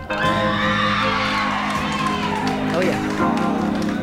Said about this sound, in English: This has got some of the greatest crowd stuff in it. Have a listen to this.